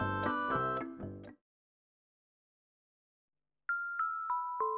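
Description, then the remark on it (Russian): A baby rattle with a small bell rings in a quick run of bright chiming notes, falls silent, then sounds a few clear stepped tones, alone. “У него в руках игрушка, погремушка с бубенцом.”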